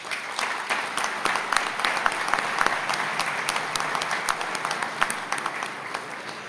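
Audience applause for the ministry's national directors and officials: a dense, steady patter of many hands clapping at once with sharper individual claps popping out, holding at an even, fairly loud level throughout.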